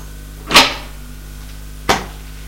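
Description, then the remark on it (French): A door opens with a sharp click or thump followed by a brief rattling decay, then a second, shorter knock about a second later. No voices; faint steady hum underneath. “Il ouvre la porte.”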